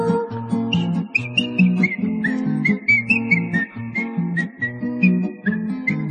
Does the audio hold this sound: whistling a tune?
yes